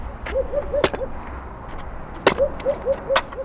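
Three sharp, loud whacks of an axe as a man chops logs into kindling for an oil drum stove land at uneven intervals, while a series of short, mid-pitched bird calls repeats steadily in the background. No one speaks.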